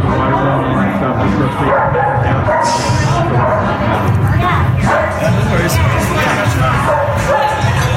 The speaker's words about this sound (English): In the restaurant, there were some people. You'll hear mingling at a restaurant in this cut. But tell me if you can hear the dog that somebody brought into the restaurant with them.